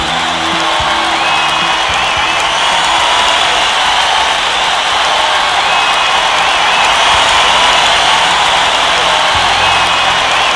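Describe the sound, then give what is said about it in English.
An audience applauds steadily for about ten seconds at the opening of the show Stating the Obvious, a dense, loud wash of many hands clapping at once with a few whoops and cheers mixed in, and no one speaking. “Thank you for the rousing applause.”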